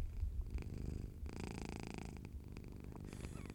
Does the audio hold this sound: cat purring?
yes